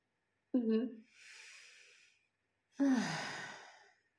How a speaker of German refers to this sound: Wir sind da jetzt mal da und atmen gemeinsam.